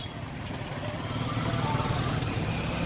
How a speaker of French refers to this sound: Au niveau de l'espace Songodé, ce taxi roule à 20 km à l'heure. À l'intérieur, les passagers se plaignent des secousses.